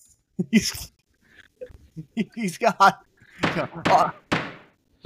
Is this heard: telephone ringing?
no